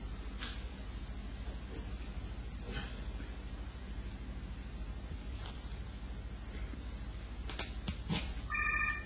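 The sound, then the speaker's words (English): A steady hiss with a few faint clicks, then a short burst of telephone dialing tones at the very end, fairly clear. “He goes over to the telephone and he picks up a phone to Reb Baruch”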